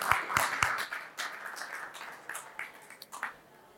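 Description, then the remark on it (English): A small audience claps for a few seconds to welcome the final guest, Gervase Williams, Head of Equities at Premier Miton. Several sharp, thumping claps at the start give way to a softer, scattered patter that tapers off. No one speaks over it. “A round of applause for Gervase, please.”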